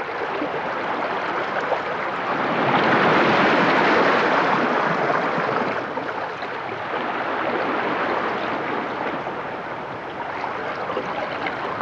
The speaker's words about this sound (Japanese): 波が消える瞬間の音まで優しく聞こえてきました